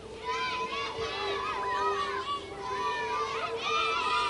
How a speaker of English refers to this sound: You can hear the kids out there having a good time. They're cheering, they're yelling. It's got to be tough as a pitcher, pitching on one of these education day, camp days, early games with all the kids in attendance.